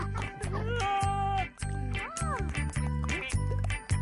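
A duck quacks loudly, a rapid string of nasal, buzzing quacks running almost continuously with only brief breaks.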